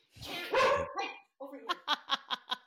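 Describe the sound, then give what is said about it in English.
Dogs bark excitedly, a loud burst of overlapping barks followed by a quick, rhythmic string of sharp yaps after a brief pause. “And then all of a sudden the dogs went crazy.”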